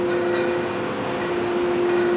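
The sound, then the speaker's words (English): A Doyon drill rig working on an injection well on the CD5 pad on Alaska's North Slope, in fog: a loud, unbroken mechanical roar with a steady humming tone running through it, constant for the whole stretch with no voices. “Ever wonder what a drill rig sounds like? Well, you are in luck. It's at work on an injection well.”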